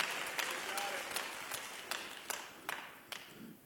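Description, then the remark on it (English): An audience claps its hands in a steady, even rhythm, about two or three claps per second, to give God praise, over a continuous wash of crowd noise and voices. “If you believe it, clap your hands and give God praise.”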